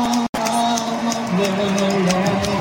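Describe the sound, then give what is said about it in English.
A dense wash of crowd noise fills a large stadium at a football game, with many fans cheering and chanting together in a steady, loud roar that continues without a break after a brief cut. “Fans are having a good time.”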